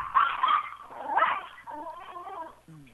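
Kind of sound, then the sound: animal, dog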